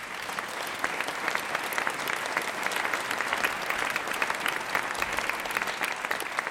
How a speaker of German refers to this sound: Und nun begrüßen Sie bitte mit einem herzlichen Applaus Mr. James Rhodes.